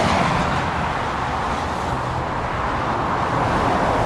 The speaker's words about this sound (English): Cars by the thousands rush past the huge mound of dirt along the west side of Highway 101 at the northern edge of Rohnert Park, where for the past 4 months, the earliest stages of a major improvement project have been underway.